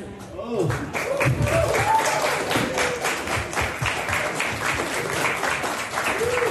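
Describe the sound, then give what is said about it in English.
A crowd at a Google Gemini hackathon applauds loudly and steadily as Google co-founder Sergey walks into the room, dense clapping with scattered cheers and voices mixed in throughout, sustained without a break. “Sergey is popping back up, and he showed up at a Gemini hackathon after all of the hoopla, and the crowd wasn't expecting him, and this was the reaction when the co-founder walked in the room.”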